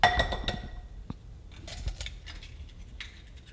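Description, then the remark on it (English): Four eggs cracked one after another into a bowl: a bright glassy clink opens, then a scattering of sharp taps and cracks over a few seconds, with no one talking. “4 eggs in the bowl.”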